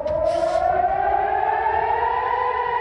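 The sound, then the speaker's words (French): Air-raid warning sirens wail steadily in Israeli cities during an overnight Iranian drone and missile attack, a sustained rising tone with strong harmonics, loud and continuous throughout with no speech. “Toute la nuit, les sirènes d'alerte ont retenti dans de nombreuses villes israéliennes, visées par plus de 300 drones et missiles iraniens.”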